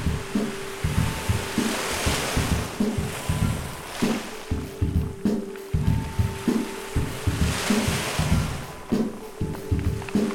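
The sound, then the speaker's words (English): Water sloshes and laps steadily over a constant broad wash of ocean noise, with a faint low hum running underneath. No voices are present. “Let's step into the water. Waves soft like a kiss upon the skin, adjusting to the difference between out and in.”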